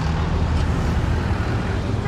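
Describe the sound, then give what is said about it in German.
A dense, steady roar of street traffic with low engine rumble from buses passing dangerously close to pedestrians and stalls at the Kariokor Market in central Nairobi, continuous throughout, with a faint murmur of crowd voices mixed into the busy outdoor din; loud, hot and dusty. “Busse fahren gefährlich nah an den Fußgängern und Ständen vorbei.”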